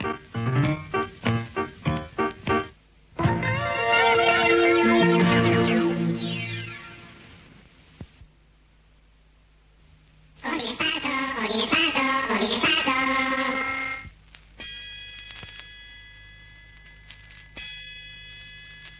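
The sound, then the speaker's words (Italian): Two loud, resonant gong strokes several seconds apart, each ringing with a rich shimmer and a long fade, marking the start of the second part of the broadcast Ordine Sparso. Quick percussive taps come before them, and a thin high tone lingers afterward. “Due colpi di gong segneranno l'inizio del secondo tempo.”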